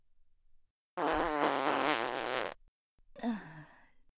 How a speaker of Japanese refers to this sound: ほら、君も嗅いでみて。まずはプーってこいてみるから、一緒におばさんのおならクンクンしてみよっか。いくわよ。